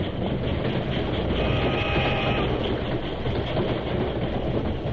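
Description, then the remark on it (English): A steam train rumbles past, a loud, steady roar of wheels with a faint clattering rhythm and a hiss of steam running through it, filling all five seconds without any voices. “His shout was lost in the rumbling of the wheels and the hissing of steam.”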